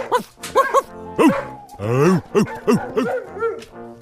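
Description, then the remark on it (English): A dog barks repeatedly, fairly loud, in a quick string of short yelping barks with one longer, drawn-out whining bark in the middle. No talking. “The ugly ones. Barking.”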